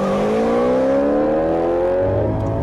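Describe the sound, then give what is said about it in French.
A black sports car engine accelerates hard at a red light, its tone climbing steadily in a loud, continuous rev with no one speaking. “Il arrive à un feu rouge. Il accélère.”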